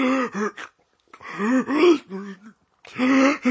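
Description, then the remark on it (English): A person chokes and gasps on sausage: three strained, rasping vocal bursts separated by brief silent pauses, fairly loud, with no words spoken. “What's happening? Are you choking? Are you breathing? Take it slow.”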